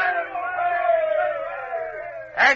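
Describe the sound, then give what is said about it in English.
A group of men cheer together in one long, sustained, loud shout of blended voices, ending with a brief, sharper burst of yelling. “Give a cheer, lads.”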